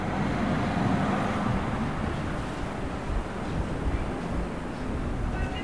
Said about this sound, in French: J'entends un bus.